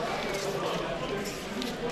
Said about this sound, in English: Love that you can actually hear me turning the pages.